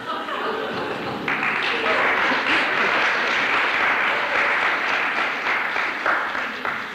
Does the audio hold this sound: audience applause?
yes